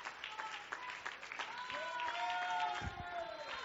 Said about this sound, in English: Could we give the Lord one more hand clap of praise tonight? Thank God for the gift of salvation. Hallelujah.